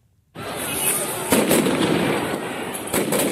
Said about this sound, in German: Die Polizei feuerte einige Blendgranaten ab.